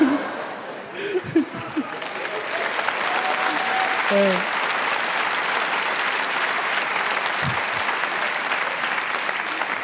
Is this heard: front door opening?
no